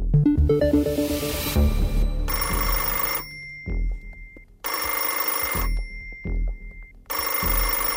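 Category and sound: signal or alarm, telephone ringing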